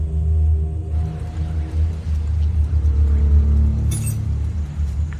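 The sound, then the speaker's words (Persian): A car engine idles steadily with a deep, continuous low rumble, and a brief jangle of keys near the end. “ماشینتو خاموش کن، کلیده رو بذار زمین، در رو باز کن.”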